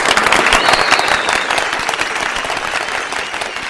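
crowd, applause

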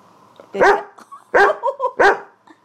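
animal, guide dog barking

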